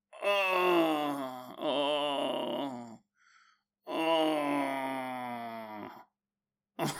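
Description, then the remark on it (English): A voice imitates the deep, drawn-out groaning of someone asleep in bed: two long moaning groans with wavering pitch, a short faint breath between, then another sustained groan, loud and without words. “You woke me up last night and you're making all this noise in bed. You were groaning. You were deeply groaning.”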